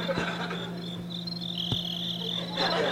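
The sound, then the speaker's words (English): A steady electronic cricket chirping plays from a noise-making device, a continuous high-pitched trill with a faint low hum underneath, moderately loud, with no one talking. “I brought the noise-making device that I use at Meltdown Comics to calm the crickets.”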